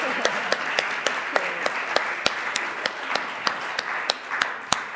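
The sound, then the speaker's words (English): A church audience claps together in a steady, moderately loud round of applause for the organist at the end of a service, sharp individual claps standing out against a dense patter of many hands, with no talking. “And I think a round of applause for John on the organ.”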